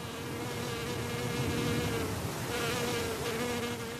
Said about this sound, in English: Fire swept through here, and now every slope, every steep canyon for miles, is black soot. And the only movement up here is the occasional lizard and the hovering wasps.